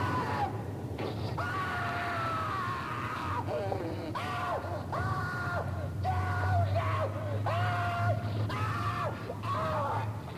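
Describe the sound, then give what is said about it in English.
A man in an audio drama screams over and over in long, strained, wavering cries, loud, with only brief gaps between them, while a steady low rumble hums underneath. “He's still screaming.”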